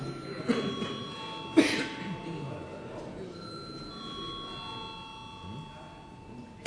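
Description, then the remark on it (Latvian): A parliament chamber bell rings steadily for several seconds before a vote, a sustained metallic tone over low murmuring voices and a couple of sharp knocks. “Lūdzu zvanu.”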